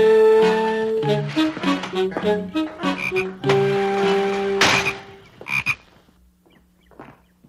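frog croaking

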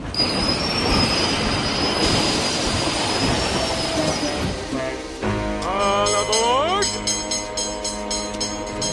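train running on rails

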